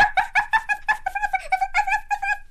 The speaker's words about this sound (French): Fait que là, moi, ça me réveille. Les chiens barbettes qui jappent tout le temps. Les astines de fatigants.